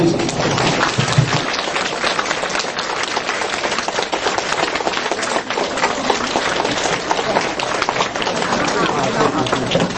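Warm, sustained applause from a large crowd welcoming Master Lu (卢台长): dense, crackling clapping that holds a steady, fairly loud level for the full ten seconds without fading.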